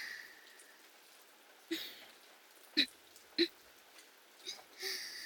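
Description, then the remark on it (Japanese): Steady rain falls with a soft, even hiss, broken by a handful of sharper drips and splashes landing at irregular moments. “しかもこんな雨の日に。”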